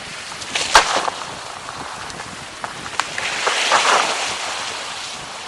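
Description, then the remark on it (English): An iceberg calving off a glacier near Jakobshavn, recorded from a chartered boat: sharp cracks and pops over a steady rush of water and wind, then a louder surging swell of churning water toward the end, with no voices. “actually, I know you have some sound of that calving of an iceberg. Can you play that for us?”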